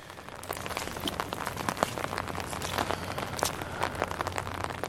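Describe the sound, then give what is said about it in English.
Steady rain pattering down at night in the Belle Isle Marsh, on the border of East Boston and Revere, a dense crackle of countless drops with sharper individual splats scattered throughout, over a low constant hum, with no voices. “the Belle Isle Marsh on the border of East Boston and Revere on a recent rainy night”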